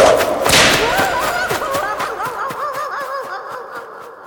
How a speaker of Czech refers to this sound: Pokud se mu nějaký nešťastník připletl pod ruku, dostal takovou ránu bičem, jen to vzduchem hvízlo a na kožichu pěkně štíplo.